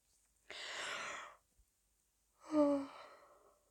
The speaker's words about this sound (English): Sorry, I didn't mean to yawn in your ear.